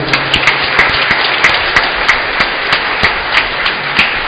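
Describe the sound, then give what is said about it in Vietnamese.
A church audience applauding a newly ordained priest at Mass, a steady dense patter of many hands clapping with sharper individual claps popping out at a fairly even rhythm, loud and sustained throughout with no talking. “Cộng đoàn chúng ta cho chàng cha một tràng vỗ tay.”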